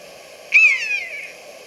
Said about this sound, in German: Ist ja geil, dass die hier so eine Spur haben. Auf der Seite deutsche Vogelstimmen.